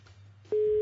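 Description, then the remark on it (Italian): A telephone ringing tone of an unanswered call cuts in abruptly halfway through, a loud, steady single-pitched electronic beep that holds to the end over a faint low hum on the line. “ultimo squillo dopo questo.”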